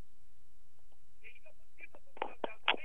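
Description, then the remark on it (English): A few short phone keypad tones beep irregularly as someone tries to unlock a phone to hang up a call, followed by louder, rough bursts of handling noise as the buttons are pressed. “I can't unlock the flaming thing.”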